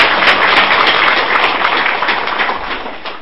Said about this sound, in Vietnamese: Dạ, chúng con cũng xin các quý Phật tử trong một tràng vỗ tay để tri ân thầy.